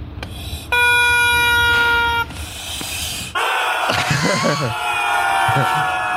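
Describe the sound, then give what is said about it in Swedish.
A whole basket of squeaky rubber ducks in a shop, all pressed down at once ("Duck Army"): first one long, steady, horn-like squeal, then a loud, chaotic chorus of overlapping wheezing squeaks at clashing pitches. “Ja, det här är alltså såna gummiankor. Men det är en hel sån korg i en affär. Så trycker ner alla.”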